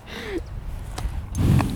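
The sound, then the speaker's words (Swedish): A horse in a paddock blows breath right into the microphone, a breathy puff of air with a low rumbling snort toward the end, heard alone with no talking. “Nu blåste han lite i min mikrofon.”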